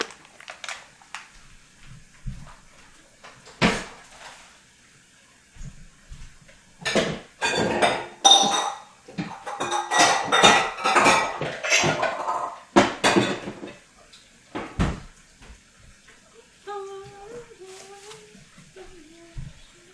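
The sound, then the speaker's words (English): Dishes and utensils clink and clatter in a busy burst of kitchen tidying while a cook cleans up a cooking station and puts away bean flour and regular flour, with sharp knocks and rattles, followed by quieter moments and a brief faint tonal sound near the end. “Alright, just cleaning up my station a little bit. Putting away the bonzo bean flour and the regular flour.”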